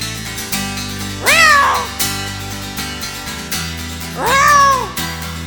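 A cat meows twice, each a drawn-out rising-then-falling cry, a few seconds apart, over a steady musical backing with a low rhythmic pulse.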